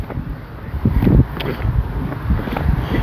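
Steady wind buffets a microphone outdoors, a low rumbling roar with gusty bumps that swell briefly louder before settling back into constant blustery noise.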